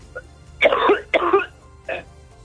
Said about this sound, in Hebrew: זה נשמע מלאכותי מדי, אני חייב לומר לך. כן, איזה שיעול היה לו על הבוקר.